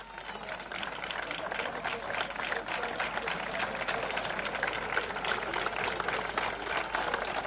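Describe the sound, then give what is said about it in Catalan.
A crowd claps steadily and continuously, a dense wash of applause with scattered voices mixed in, sustained at an even level throughout, applauding Mossos d'Esquadra police officers as they pass near the CERN school, where a queue of people waits to vote. “Els agents d'aquest cos eren aplaudits cada cop que passaven prop del col·legi del CERN.”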